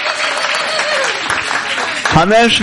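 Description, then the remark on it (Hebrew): A crowd applauds with a dense, steady wash of clapping throughout, and a man's voice rises over it near the end. “בראבו, מאות כפיים.”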